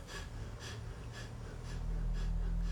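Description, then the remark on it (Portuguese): Quick, shallow breaths are deliberately huffed in a steady rhythm, about five airy bursts in under three seconds, mimicking the hurried breathing of someone anxious. No one speaks over them. “Então imagina, uma pessoa ansiosa, ela está respirando a 30, 40 vezes por minuto.”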